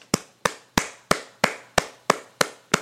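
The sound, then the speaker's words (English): Nine sharp hand claps in a steady, even rhythm, each a crisp, bright smack with a short decay. No one speaks between them. “Let me clap it up.”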